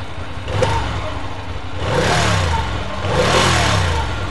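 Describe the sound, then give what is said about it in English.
A motorcycle engine sputters to life and then revs twice, each rev swelling up and easing back down. It sounds loud, with no voices. “Fire up the bike.”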